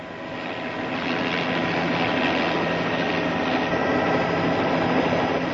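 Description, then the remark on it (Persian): A helicopter flying, flown by a trainee pilot on his first solo flight, its engine and rotor making a loud, steady roar that swells slightly in the first second and then holds constant, with no voices. “این بنده خدا خلبان هلیکوپتر در پایان این مرحله از آموزش خلبانی از نخستین پروازی که به تنهایی انجام داده موفق بیرون آمده است.”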